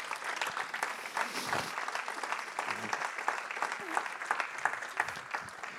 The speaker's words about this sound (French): Est-ce qu'on peut applaudir le Seigneur ce matin ?